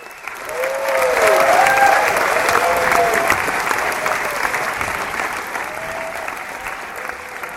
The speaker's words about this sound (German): Fast 2 Stunden geht der Zwerg Nase und natürlich gibt es am Schluss ein Happy End und einen lauten, lauten Applaus.